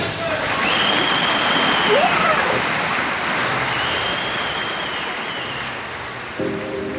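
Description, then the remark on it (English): A loud, steady rush of churning water and bubbles fills the whole stretch as a diver plunges under the surface of a pool, picked up by a microphone at the bottom of the pool, with a faint thin whistle drifting above it and a muffled sound near the end. “When the athlete goes under the water, we shift the perspective to just them and the underwater sound. You hear the bubbles.”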